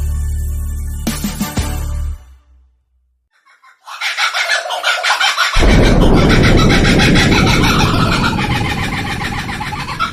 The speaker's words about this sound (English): Kookaburra laugh and laugh and sing on, sing on, sing on.